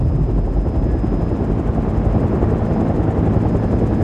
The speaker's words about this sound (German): wartete auf mich auf dem Dach des Polizeipräsidiums in seinem Hubschrauber.